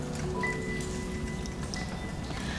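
Steady rain falls throughout, a dense hiss of countless drops and patters at an even, moderate loudness, with a few faint sustained tones drifting underneath. No one speaks.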